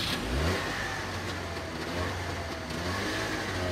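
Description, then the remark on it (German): A small Trabant car engine revs steadily, its buzzing mid-pitched drone rising and holding with a slight surge near the start, no voices over it. “In Ost-Berlin gab es Autos, die irgendwie immer gleich aussahen und die waren noch etwas kleiner. Die kleinen Autos heißen Trabant.”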